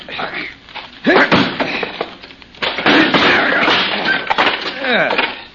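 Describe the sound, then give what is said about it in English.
A locked wooden door is forced open: loud, heavy thuds and splintering cracks come in two strong bursts, with a person talking and grunting between and over them. “And this door's locked. If he can't break it open...”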